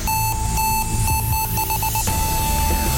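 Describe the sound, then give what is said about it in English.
A loud electronic quiz timer alarm beeps in quick, shrill pulses that speed up before merging into one steady, continuous tone, with low background noise underneath and no talking. “Oh, there's the timer.”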